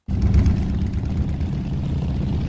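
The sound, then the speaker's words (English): A dense, steady rumble of thousands of motorbike engines gathered on Pakistan's border with Iran, kicking up dust in blistering heat, ridden by smugglers of Iranian fuel; a low droning mass of engine noise that starts abruptly and holds at a constant loud level with no voices. “On the edge of Pakistan's border with Iran, thousands of motorbikes are gathered together, kicking up dust in blistering heat.”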